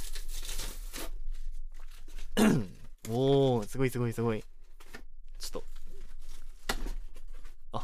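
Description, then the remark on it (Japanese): The cardboard box and packaging of a just-delivered parcel being torn and crinkled open in several bursts of rough, papery noise, with an excited voice exclaiming in the middle. “本当に今届いたばっかりなんで、段ボールから開けてもいないんですよね。”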